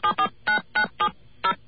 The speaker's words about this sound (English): Okay, there's our dial tone. We're just going to call up a number.